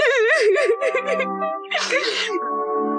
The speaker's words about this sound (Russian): Не плачь ты, пожалуйста, все время как вода. Как тебе не стыдно, такая большая девочка?